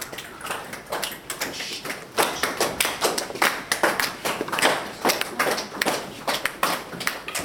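Sharp hand claps repeat throughout, about twenty or more in an uneven rhythm, sometimes overlapping as if several people clap at once, as participants test finding walls by the echo of their claps. The claps are moderately loud, with no talking.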